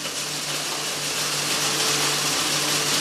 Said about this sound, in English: Well, at the moment, we're just pressing some olives through an olive press, which consists of a malaxer or a hammer mill, which smashes the olives up.